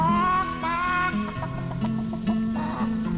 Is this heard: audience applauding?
no